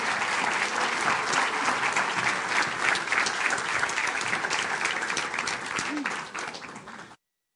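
Sustained applause from an audience, a dense steady clatter of many hands clapping that holds for several seconds before thinning out and stopping abruptly.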